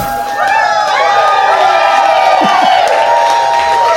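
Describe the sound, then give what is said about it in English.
An audience at a live show at South by Southwest cheers loudly and steadily for several seconds, a dense wash of overlapping whoops and high, rising and falling shouts with no single voice standing out. “Whenever the audience clapping doesn't match up with the song, we just put the song in clean.”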